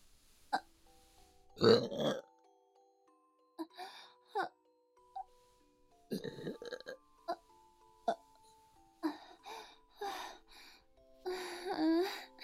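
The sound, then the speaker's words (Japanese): A loud burp rumbles out early, followed later by a few more drawn-out belches, with breathy vocal sounds and short murmurs scattered between them. “あなたの我慢汁ゲップ出させていただきますわね。”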